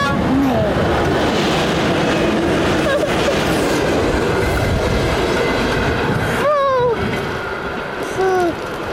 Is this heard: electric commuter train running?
yes